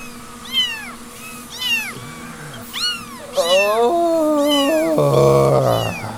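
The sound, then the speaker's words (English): A cat meows repeatedly in drawn-out, wavering cries, fairly loud, building into longer, more insistent yowls toward the end with no talking. “Yes, we're in the cat factory.”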